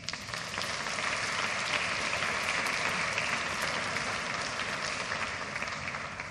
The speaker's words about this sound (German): Darf ich erst einmal einen schönen Applaus für euch, dass ihr hier seid.